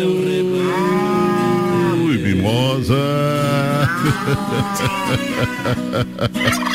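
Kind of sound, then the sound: animal, ox mooing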